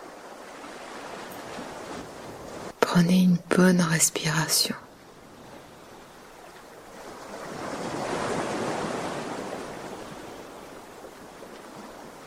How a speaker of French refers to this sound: Le bruit de l'eau, toujours. Qui vous guide et vous rassure.